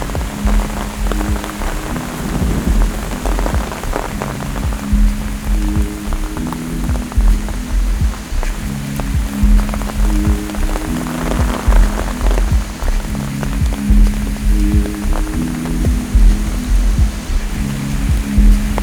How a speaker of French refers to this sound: Je marche, traversé par des ondées de plus en plus pressantes ou denses, c'est comme vous voudrez.